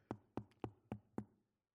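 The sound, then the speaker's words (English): Five evenly spaced knocks on a wooden door, fairly loud, each with a hollow thud that quickly fades, then silence. No voices are heard. “And as he's on that rooftop praying, a knock comes.”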